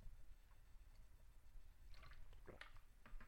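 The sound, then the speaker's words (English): Water is poured into a cup in short, quiet splashing bursts near the end, with gentle trickling and dripping and no one speaking. “And that was the last of my coffee, so I'm going to switch to water.”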